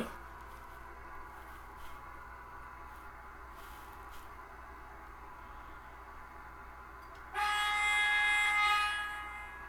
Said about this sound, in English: Oh. Passing train.